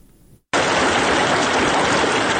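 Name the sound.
flowing river water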